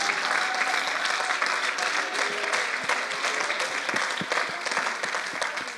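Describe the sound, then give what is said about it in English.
An audience claps hands to the Lord in a dense, sustained wash of applause that stays steady and fairly loud for several seconds, with a few sharper individual claps standing out. “Oh, you ought to clap your hands to the Lord.”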